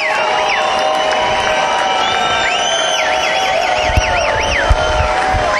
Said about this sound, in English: is getting a little ovation here